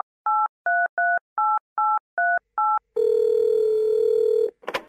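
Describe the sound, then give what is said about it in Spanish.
Seven quick, evenly spaced touch-tone beeps as a phone number is keyed in, followed by a steady, buzzy telephone tone that holds for about a second and a half before a brief click. “Bueno, llamemos a Susana, dele.”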